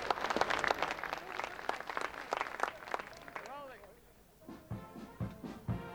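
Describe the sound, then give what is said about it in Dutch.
An audience breaks into applause, a dense burst of clapping that fades after a few seconds, followed by a voice speaking over scattered remaining claps. “Applaus.”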